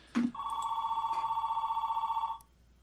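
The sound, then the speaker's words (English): A telephone rings with one steady, warbling electronic tone lasting about two seconds, loud, preceded by a brief click and with no voices, signalling an incoming call from a listener. “Oh, that sounds like someone with something to say.”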